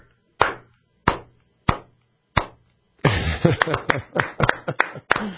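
Hand claps: four sharp, evenly spaced slow claps, then a louder burst of quicker, overlapping clapping as two people clap together for a couple of seconds.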